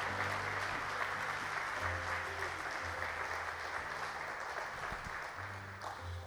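Sustained applause from a church audience applauding the Lord fills the whole clip, a dense, steady wash of clapping with a low hum running beneath it and no speech.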